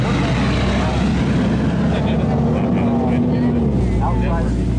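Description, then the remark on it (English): A heavy truck drives past, its engine rumbling loudly, a dense low roar with a steady droning hum that swamps the scene, while faint voices barely come through underneath. “It's hard to hear each other talk when all we can hear is the truck, so we have to wait for a couple minutes for it to pass.”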